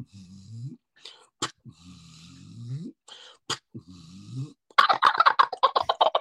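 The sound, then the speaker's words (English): A male wild turkey gobbles during a turkey hunt. Several low, drawn-out calls with sharp clicks between them build into a loud, rapid rattling burst of gobbling at the end. “You hear the rattle at the end of his gobbler.”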